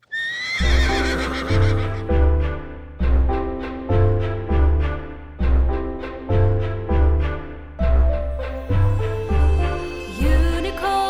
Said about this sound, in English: You're so excited at the idea that you let out a big neigh!